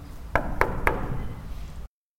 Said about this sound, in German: Seltsam. Das waren Schritte. Da stimmt doch was nicht.